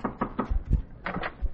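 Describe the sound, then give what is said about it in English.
A quick series of firm knocks on an apartment door, three in an even rhythm, followed by heavier thuds and another short burst of rapping. “Now, go ahead. Knock at the door.”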